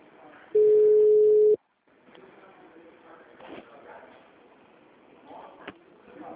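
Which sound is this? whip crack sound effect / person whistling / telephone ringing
telephone ringing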